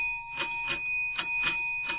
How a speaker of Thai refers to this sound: วันนี้นาฬิกายาวแล้วก็ดังเป็นพิเศษเพราะว่าเป็นเช้าของวันจันทร์